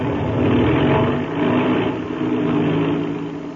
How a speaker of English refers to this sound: That's the way an airplane motor starts, fast as a flash.